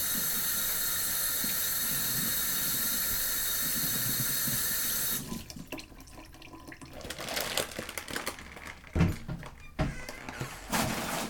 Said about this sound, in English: And I've got chicken all over my hands, so I'll just wash it. Wash my hands out.